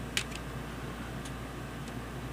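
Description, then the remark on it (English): A steady, low air conditioner hum drones on without change, with a few faint, sharp ticks scattered over it and no voices. “You can hear the hum of the air conditioner in the background.”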